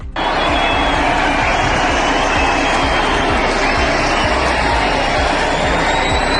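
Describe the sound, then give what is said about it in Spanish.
A large crowd shouts and jeers at the city's mayor attending a celebration of the Virgin in the Valencian Community, a loud, continuous roar of overlapping voices, sustained without a break, with boos rising out of the din. “Fue recibidos con gritos y abucheos, insistimos, era la primera vez que como alcalde de la ciudad asistía a un acto de celebración de la Virgen.”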